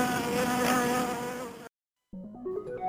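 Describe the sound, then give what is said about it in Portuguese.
A dense, steady drone of buzzing bees fills the first second and a half, loud, then cuts off abruptly into silence before a short melodic jingle begins. “E lembre-se, você não quer viver em um mundo sem abelhas.”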